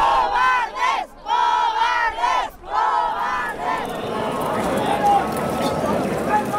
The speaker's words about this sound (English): Back at the Toro de la Vega festival, a yelling match breaks out between dozens of animal rights protesters and thousands of festival goers, with both sides calling each other cowards.